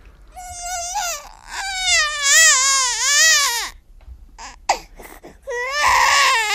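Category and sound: human body sound, baby crying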